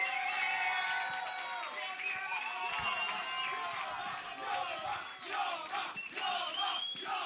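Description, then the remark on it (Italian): A large audience at the Premio Dubito evening applauds and cheers loudly for the participants and organisers, with whoops and shouting voices blending into a dense, steady roar that carries on for several seconds without letting up. “Vorrei anche un applauso per tutti i partecipanti al Dubito, un applauso a voi soprattutto, e un applauso a tutti quelli che hanno organizzato questa serata.”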